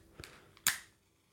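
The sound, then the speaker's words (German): A storm match strikes with a short scratchy scrape, then a sharp bright flare of hissing ignition that quickly fades into quiet. “Und da haben wir auch diese Sturmstreichhölzer.”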